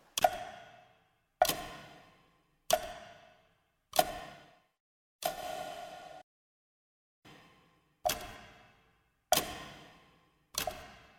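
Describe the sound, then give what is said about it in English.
A clock in an office ticks slowly and steadily, about nine sharp ticks a little over a second apart, each with a brief ringing decay, with no voices or other sounds around them. “was in her office, watching the clock and praying.”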